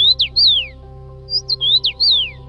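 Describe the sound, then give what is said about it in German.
Clear whistled call of a red-headed migratory songbird that returns each spring from its winter quarters in India to Lithuania, males fully red and females grey: two quick bursts of bright sliding notes separated by a short pause, fairly loud over a faint steady low hum. “Rotkopf-Schneehühner sind außergewöhnliche Vögel. Die Männchen sind komplett rot und die Weibchen sind grau.”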